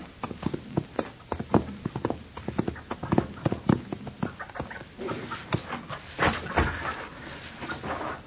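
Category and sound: animal, horse hooves clip-clopping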